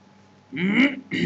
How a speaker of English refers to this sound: Let me clear my throat.